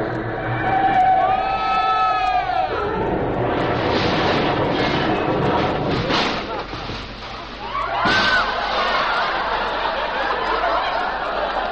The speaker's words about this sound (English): Clem, there's a train, I tell you. Now watch out. Well, why, we got as much right to drive on these tracks as they have. Watch out, Clem. We're going to hit that train.